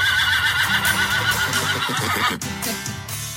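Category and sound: animal, horse neighing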